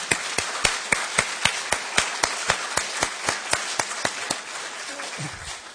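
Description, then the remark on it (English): A small group claps in a steady, fairly even rhythm, with sharp bright hand claps repeating a few times per second, gradually thinning out and fading toward the end, in response to a poll result that 93% of respondents favored legalizing marijuana. “Go ahead, clap.”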